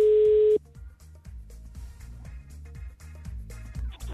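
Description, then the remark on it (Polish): A single steady telephone ringback tone, heard as a call is placed to a prize winner, sounds loud and clear for about half a second, then cuts off, leaving a quieter rhythmic music bed playing with no speech. “Pierwszy sygnał za nami.”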